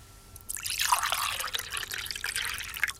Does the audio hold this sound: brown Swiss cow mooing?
no